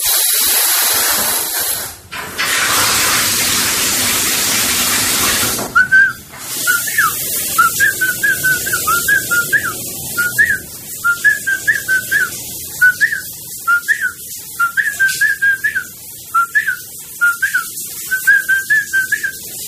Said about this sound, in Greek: επειδή ο ίδιος είπε ότι σφυρίζει, ξαναμπαίνουμε πάλι στον ντουζ να ακούσουμε τι ακριβώς σφυρίζει